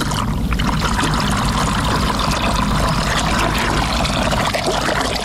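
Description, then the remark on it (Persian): A steady stream of water pours continuously from a clay jug, fairly loud, with a bubbling, splashing texture that holds even for the whole stretch and no voices. “شنونده های عزیز سلام، در بین برنامه رو می گوشاییم و با کوزه آب و روشنایی به سوی شما می آییم.”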